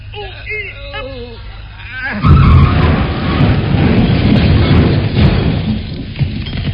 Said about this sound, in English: Right, I'll make the straining noises.